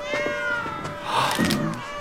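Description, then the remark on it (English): Hundreds of white cats meowing at once in a cat room, their high, wavering cries overlapping into a continuous chorus that swells briefly in the middle, with no one speaking. “Cats. Hundreds of white cats.”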